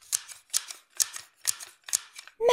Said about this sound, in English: Horrid Henry twirled the scissors. Snip, snip, snip, snip, snip.